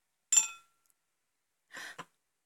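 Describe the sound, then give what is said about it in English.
A single bright glass clink rings briefly and fades, followed after a pause by a short, soft gulping sip as someone drinks from the glass and a quick tap, fairly quiet, with no talking. “Keep on drinking. Finish the glass.”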